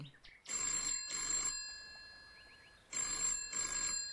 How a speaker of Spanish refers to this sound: ¿Quién llama al timbre? Preguntó la dueña de la casa.